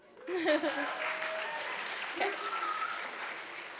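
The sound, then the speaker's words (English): A crowd claps steadily and loudly for several seconds, cheering on a performer who is about to deliver song lyrics as spoken word. Scattered whoops and shouted cheers rise above the dense wash of applause. “So you guys have to cheer him on, okay?”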